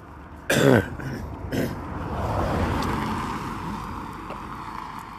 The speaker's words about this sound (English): And we'll wait for this car or truck, whatever it is, to pass us.